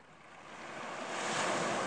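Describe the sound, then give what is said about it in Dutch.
Distant ocean surf, heard from a small bay with a rocky coast and pine trees, rumbles steadily, a broad, dark wash of noise that swells slightly louder toward the end, with no voices present. “En je hoort hem heel donker ruisen. Boven de golven uit.”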